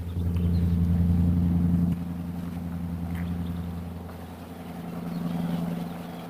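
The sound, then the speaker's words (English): A loud fire truck engine rumbles with a deep, steady drone, easing slightly after the first couple of seconds and swelling again toward the end. “It's a loud truck.”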